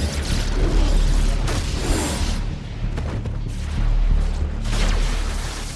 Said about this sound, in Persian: گویا به کاروان ماشین های رئیس جمهور تیراندازی شده. به رئیس جمهور شلیک شد.